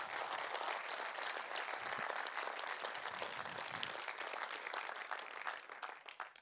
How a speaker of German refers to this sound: Wollen wir mal Jesus so einen Applaus geben? Das ist doch richtig cool.